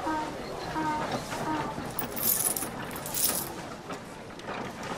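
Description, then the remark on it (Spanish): Judas sets a few coins down on a table, giving two or three brief, bright metallic clinks over a dense, murmuring background. “Judas pone encima de la mesa unas monedas.”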